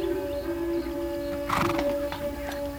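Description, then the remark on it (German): Horses whinny with a brief, bright cry about halfway through while hooves clop softly at a walking pace, all over a steady humming drone. No one speaks. “Die Pferde sind durstig.”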